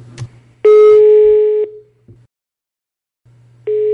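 An outgoing call's ringing tone: a steady, loud beep lasting about a second, a long pause, then the next ring starting, over a faint low hum on the line.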